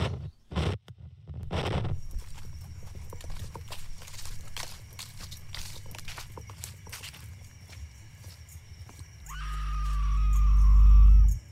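In a horror film trailer, hooves clop along at a steady pace, then a loud, drawn-out scream swells up near the end and cuts off abruptly, with a heavy rumble beneath it.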